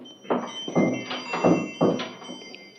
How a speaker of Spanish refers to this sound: Entornó la puerta de su taller y colgó el cartelito de cerrado. Así ya no nos estorba.